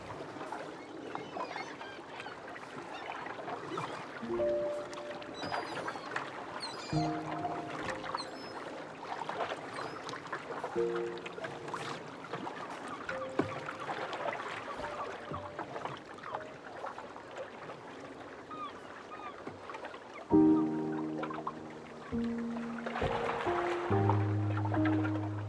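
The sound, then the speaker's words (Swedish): Oars dip and splash through water in a steady, unhurried rowing rhythm, with soft trickles between strokes, while a few gentle musical tones sound underneath. “Jag vill fortsätta ro nu.”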